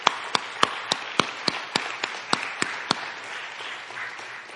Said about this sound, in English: But I do want to do this. I want to pray over the dads and, give your dad just a round of applause. I appreciate you dads.